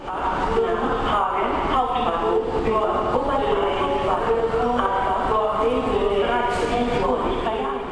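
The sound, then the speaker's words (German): A train station announcement echoes from the platforms through a large, reverberant station hall, the same amplified voice repeating, smeared and hard to make out over a steady rumble of busy railway ambience. “Und von den Gleisen schallt immer wieder die gleiche Stimme in die Bahnhofshalle hinab.”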